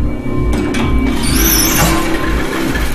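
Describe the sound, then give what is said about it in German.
A door creaks open, giving a thin, high squeal that rises and wavers for about a second over a steady, loud low rumble that runs through the whole clip. “Okay, aber diese Tür muss echt mal WD-40 hier.”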